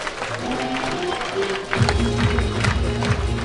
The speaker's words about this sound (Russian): И под ваши аплодисменты мы встречаем победителей!